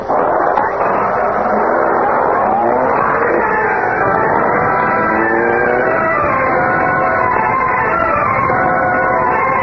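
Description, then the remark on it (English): A car engine roars as the car pulls away fast to follow another car. Its whining pitch climbs and sweeps steadily as it accelerates, loud and continuous throughout with no talking. “All right, get started, Cato.”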